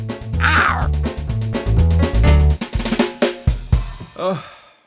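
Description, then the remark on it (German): A single drawn-out tomcat meow rises and falls near the end, following several seconds of rhythmic, music-like tones with a pulsing low beat. “Na siehst du, Kater, du hast die Flasche auch ganz alleine aufgekriegt.”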